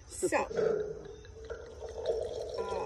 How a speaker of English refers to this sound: Oh wait, first we have to pour the wine. Well, literally, that's your job. Okay.